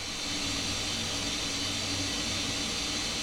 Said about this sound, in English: You sort of hear the running water sound